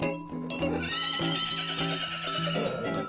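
A horse neighs in a long, shrill whinny that rises and falls, loud over a steady, rhythmic thumping backdrop that runs through the whole stretch.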